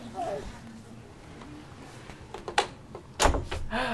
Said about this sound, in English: Door's closed.